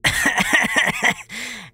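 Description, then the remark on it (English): A rapid run of about six coughs in quick rhythm, loud, followed by a brief strained, wheezy vocal tail as the fit trails off. “Then there's a moment of coughing.”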